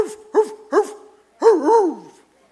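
A dog barks three times, two short yelping barks followed by a longer, drawn-out bark that bends in pitch like a howl, with no talking.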